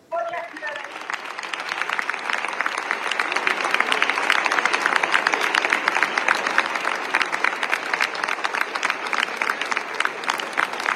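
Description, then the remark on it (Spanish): A minute of applause in the Senate of the Republic in Mexico, in tribute to Silvia Pinal after her death, requested by Senate president Gerardo Fernández Noroña: a dense steady patter of many hands clapping that swells slightly and holds at a fairly loud level, with no voices standing out. “el presidente de la mesa directiva, Gerardo Fernández Noroña, pidió guardar un minuto de silencio por la muerte de Silvia Pinal y también brindarle pues un minuto de aplausos, por supuesto, a quien también fue legisladora.”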